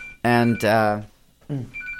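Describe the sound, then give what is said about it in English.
A guest's mobile phone rings with a thin electronic ringtone, chirping in short steady tones at the start and end, while voices talk loudly over it in between. “She's going to silence that phone.”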